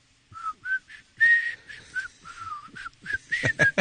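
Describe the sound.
A person whistles a short, bouncy tune, a string of clear pitched notes rising and falling in quick succession, moderately loud with no talking.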